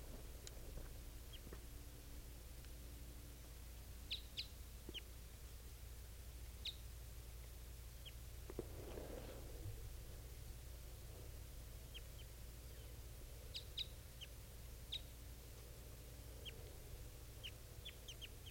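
Two female birds calling, trading short, high chirps in scattered bursts and small clusters over a steady low hum, with no voices present.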